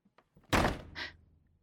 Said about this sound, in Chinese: 我的天哪，这是怎么一群狐朋狗友啊？进门就进门，怎么搞这么大的动静啊？恐怕门都被他们弄坏了吧，真是无法无天了。